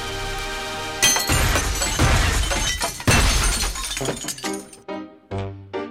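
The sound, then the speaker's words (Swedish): Loud crashes of sledgehammer blows smashing pinball machines, with glass shattering and clattering apart; two big impacts are followed by ringing, tinkling shards and short metallic knocks. “Vi vädjar till er, använd släggan, krossa dessa maskiner och ge oss våra barn tillbaka.”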